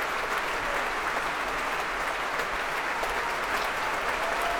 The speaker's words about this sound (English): Returning to the stage now to soak up some more of that applause, bringing the woodwind section to their feet.